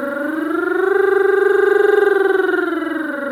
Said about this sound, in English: What I'd like you to do is to see if you can make the glissando more slidey. So we're going to be really enjoying all those, even smaller than semitones, aren't they? Quarter tones between those pitches. Something that goes a little bit like this.